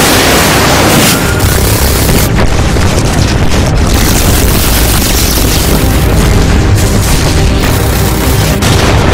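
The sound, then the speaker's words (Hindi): Heavy, continuous booming from artillery shell explosions, loud, with deep rumbling and sharp bursts layered over each other throughout, no pauses or voices. Some of the shells are coming straight toward the speakers' position. “कुछ गोले सीधे हमारी तरफ आ रहे हैं, तैयार हो जाओ।”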